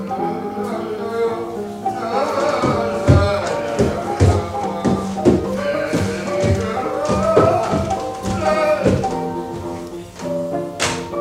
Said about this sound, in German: Irgendwo klopft's hier, scheint von oben zu kommen.